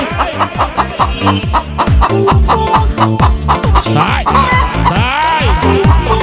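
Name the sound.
chickens clucking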